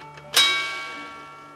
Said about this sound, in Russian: Есть среди экспонатов сундук с секретом, прообразом современной сигнализации. При повороте ключа раздается звук, позволявший когда-то его хозяину узнать, что на его собственность покушаются.